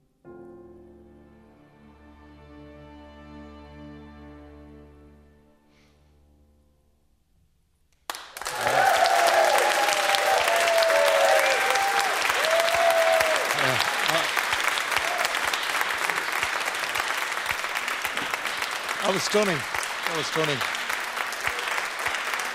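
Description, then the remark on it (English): A held sung note with orchestra backing, ending a serenade, fades out, then loud, dense applause and cheering erupt and continue steadily to the end, with a voice speaking briefly over the clapping. “I don't know about you at home, but I'm cheering up here.”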